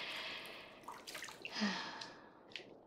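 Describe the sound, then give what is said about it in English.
Quiet trickle of bathwater being poured down someone's skin in a bath, a soft steady pour broken by a few small drips and splashes, with no one talking. “Here, I'll trickle the water down your skin.”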